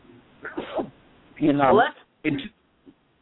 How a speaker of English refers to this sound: Excuse me, I got to sneeze.